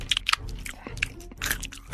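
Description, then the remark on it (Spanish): Wet, crunchy chomping and biting, loud, with several sharp crunches in quick succession over about two seconds, as the tragaldabas monster greedily devours the middle sister, Mediana. “¡se la comió!”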